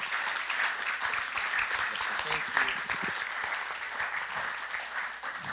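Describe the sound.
A standing audience applauds to honor a guest, a man of God, in a loud, dense, steady wash of clapping that holds for the whole stretch, with a brief voice rising out of the noise midway.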